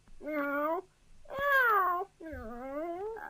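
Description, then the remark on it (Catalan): Three drawn-out, high-pitched kitten meows in a row, each rising then falling, with short pauses between them. They are clear, with no other sounds around them. “Ai, ai, que bé que enrona aquest gatet. Quina veu més bonica que té, comparada amb aquella veuassa del gos i amb aquells crits del gall.”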